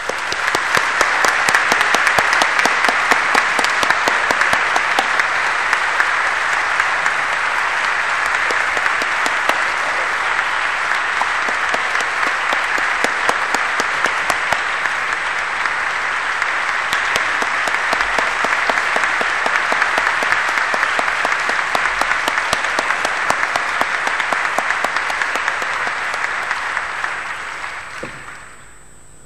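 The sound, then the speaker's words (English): Sustained applause from a large conference audience recognizing the organizing team, a dense, steady wash of many hands clapping at full strength for nearly half a minute before tapering off at the end. “And I think we want to all give them a big round of applause.”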